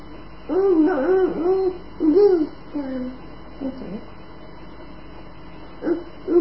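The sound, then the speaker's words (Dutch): A large crow calls with a run of harsh, drawn-out caws, four or five in quick succession, then a pause and one more short caw at the end. “Een grote kraai.”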